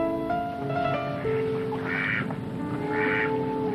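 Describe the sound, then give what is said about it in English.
Ducks, mother ducks with their little ducks, quack steadily at LBJ Park on a beautiful day, with overlapping calls from several birds and two louder, harsher bursts standing out near the end. No one speaks. “And I went to the little ducks and the mamas rushing their flock along as I stood there for a second, savoring a beautiful day.”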